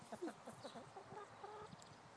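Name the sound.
chickens clucking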